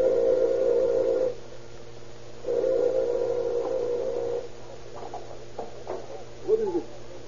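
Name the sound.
doorbell ringing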